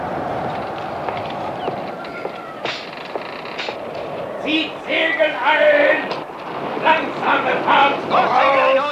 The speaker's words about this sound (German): Wie komisch sich die Segel blähen. Ach was, der Himmel ist doch noch ganz klar. Ah, so kalt ist's auf einmal geworden. Ah, aber das ist der Wind.